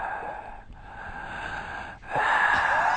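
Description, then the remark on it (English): Heavy, deep breathing from underneath a table, a slow rush of air that swells louder near the end, with a soft snort-like catch between breaths and no talking. “Oh, he's underneath the table, actually. He's been keeping me company for quite that some time. That is one deep breathing motherfucker.”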